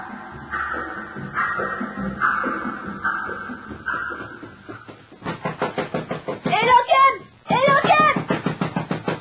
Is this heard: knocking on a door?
yes